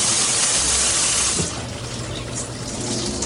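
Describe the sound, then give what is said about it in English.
Two sponges soaked in hot water being wrung out, a loud rush of splashing liquid that eases after a second or so into a softer, steady trickle, with no voices. “Then you wring them out.”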